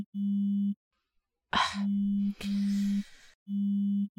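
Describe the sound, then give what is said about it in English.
A phone buzzes in repeated steady electronic pulses, each about half a second long with short gaps between them. A soft breathy rustle briefly overlaps the middle bursts. “Oh, look at that. My phone is going crazy.”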